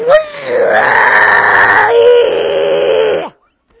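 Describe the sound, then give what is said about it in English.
A voice imitates a dial-up modem connecting: a sustained, harsh screeching tone that shifts pitch partway through, loud and continuous for about three seconds before cutting off. “And then it would make this horrible noise when it connected to the internet, like somebody screaming from the sulfuric pits of hell.”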